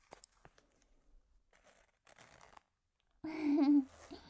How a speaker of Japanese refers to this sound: ズボンのチャック、下ろしますね。